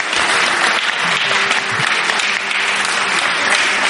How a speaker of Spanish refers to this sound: Bueno, pues gracias, un aplauso fuerte para todos vosotros. Muchas gracias, de verdad, muchas gracias.